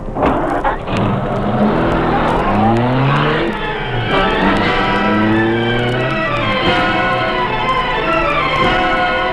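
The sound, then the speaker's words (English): A car engine revs hard and accelerates, its pitch climbing through several gear changes as it pulls away, loud, with a brief tire squeal and no talking. “Follow that car.”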